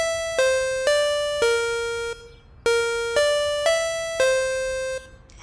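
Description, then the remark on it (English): A door buzzer at the entrance of an abandoned warehouse is pressed and rings as a melodic electronic chime: four bright notes stepping downward, then the same four-note pattern repeats after a brief pause. Clear and steady, with no voices. “Oh, nope, found the buzzer.”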